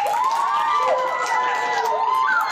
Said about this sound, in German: Da vorne ist auch Publikum, das sieht das Spiel auch, das applaudiert jetzt mal. Und ein Fünferapplaus.